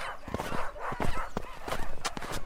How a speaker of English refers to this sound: Fresh snow fell overnight, there's probably 3 or 4 feet of it resting over the landscape here, and the sound of snow is everywhere, with every move you make.